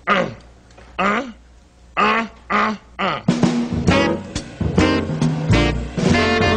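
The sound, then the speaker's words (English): Two saxophones trade short, bright phrases back and forth, answering each other in turn, before the playing thickens into a fuller passage with a band joining underneath. “You might call it a conversation between the saxophones.”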